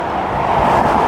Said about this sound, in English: cars and trucks are going really fast right next to me, so I don't like staying on this road any longer than I have to.